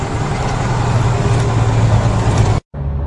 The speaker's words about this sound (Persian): از این لودرهای کوچک گرفته تا این بولدوزرهای عریض و طویل و کامیونهایی که از استانهای مختلف راهی پل دختر شدند، همه روزانه بارها خیابانهای پل دختر را طی کردند تا کمتر از 2 هفته این 1,500,000 متر مکعب گلولای را از شهر جمع کنند.